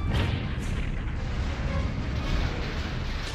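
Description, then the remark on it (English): A huge explosion from a crash that destroys a base roars and rumbles, a dense, loud, bass-heavy blast that keeps thundering without letup for several seconds, with no voices over it. “That was an excessive explosion.”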